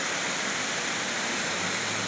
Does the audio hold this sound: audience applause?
no